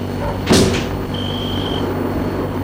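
A car's rear door shuts with a single solid thump over a low, steady engine hum, followed by a brief thin high-pitched tone that fades out.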